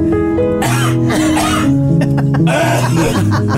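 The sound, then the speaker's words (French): A person imitates an audience member coughing during a solo piano performance: several rough, throaty bursts in quick succession, fairly loud, with a steady tonal hum underneath. “Ça toussait aux 15 secondes. Fait qu'à tous les 15 secondes, ça faisait, mettons.”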